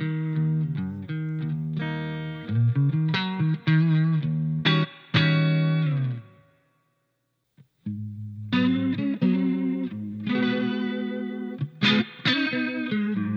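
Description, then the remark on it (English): A clean electric guitar with a touch of reverb plays strummed chords and picked notes, stopping briefly for a silent pause midway before resuming at a steady, moderate volume with no voices. “As you can see, my clean tone is fairly straightforward, with a little bit of reverb.”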